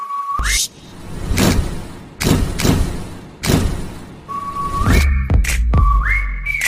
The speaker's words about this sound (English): Make a whistle, like a whistle, ba ba. Every time I show up.